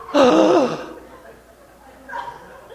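A largely evangelical Christian audience at a Faith and Freedom Coalition conference lets out a sudden, loud collective gasp at remarks by Senator Paul, fading within a second, followed by a quieter breathy murmur a moment later.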